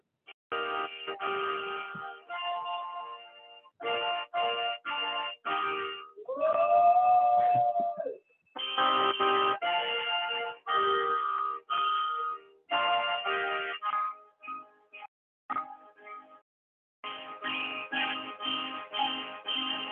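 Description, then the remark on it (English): Church bells ring out in an abbreviated orchestral recording, depicting the Russians back at peace after Napoleon's invasion: repeated clanging strikes in bright clusters with short pauses between them, fairly loud and prominent, with no voices. “Now here's the Russians back in their peaceful. Church bells ringing.”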